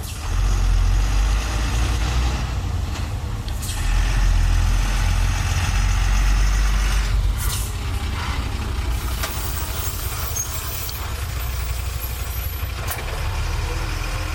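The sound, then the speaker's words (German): A heavy garbage truck engine idles with a steady, loud low rumble throughout, with a few brief hissing bursts like air brakes releasing; no one speaks. “Im Sommer kommen die Wagen für den Bioabfall einmal in der Woche, im Winter nur jeden Monat.”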